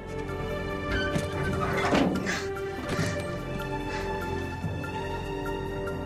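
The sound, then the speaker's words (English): A few heavy metallic clunks and scrapes as a man unlocks an aircraft hatch door above his head, followed by a softer knock, all over a constant low droning engine hum. “Jack removes his shoulder bag and starts to unlock the hatch door over his head.”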